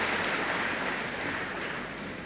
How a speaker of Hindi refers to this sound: जोरदार ताली बजा करके दीदी जी का हम सभी आभार व्यक्त करेंगे।